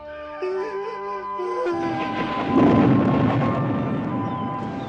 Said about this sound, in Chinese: 倾盆大雨还在屋外下着，整个城市几乎暗无天日，偶尔有几道闪电劈开乌云，带来一种苍凉的美。